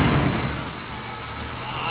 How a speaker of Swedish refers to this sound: Där hör man ju direkt, hör du, att det är tändspolen. Det tänder inte till riktigt i bilen här, faktiskt.